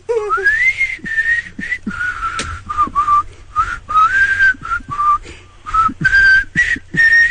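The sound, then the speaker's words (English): Someone whistles a tune, a bright wavering melody of short and held notes with brief gaps between phrases, running steadily throughout with no talking. “Is it easier to whistle when you're laughing?”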